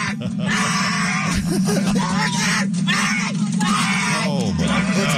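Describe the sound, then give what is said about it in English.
A man screams and yells loudly in strained, sustained bursts, his cries running almost continuously over a few seconds amid other overlapping voices. “where the Chinese guy is in the trunk and they let him out and he just starts screaming bloody murder because he finally”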